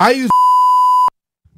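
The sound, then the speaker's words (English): A steady, loud electronic censor beep cuts off a voice mid-word, holding a single pure tone for nearly a second before stopping abruptly into near silence. “and then we beep out a certain spot of the sentence, and you try to figure out what's behind that beep.”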